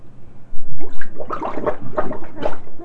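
Bathtub water draining out with a steady run of bubbly gurgles and glugs that swell in short bursts, fairly loud and with no one talking.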